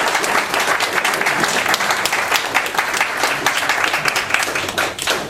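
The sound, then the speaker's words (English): A university audience applauds steadily for several seconds for the kind lady who will act as the runner. The applause is a dense, continuous wash of many hands clapping at an even loudness with no talking over it. “Also, can we give a round of applause to the very kind lady who will act as the runner?”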